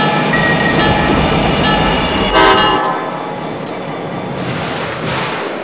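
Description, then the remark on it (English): Passenger train number 392 from Carbondale pulls into a station on track 2: a loud, steady rumble and clatter of cars, with a brief tonal blast midway, then the noise settles a little lower as it slows. “Now arriving from Carbondale, on track number 2, train number 392, VLA.”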